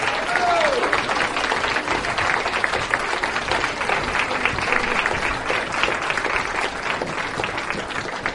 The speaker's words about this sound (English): So before we hear the final school, can everybody give a huge round of applause to every single student who's performed this morning and worked so hard in their pieces throughout the last 3 weeks?